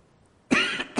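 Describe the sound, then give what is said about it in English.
After a moment of quiet, a loud cough bursts right up close to the microphone, followed by a shorter second cough. No one speaks. “I'm going to switch to a handheld mic so I don't have to cough into my mic every time.”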